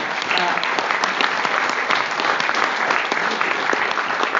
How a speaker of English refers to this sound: I think we should salute the judges for choosing such good people. We applaud the judges.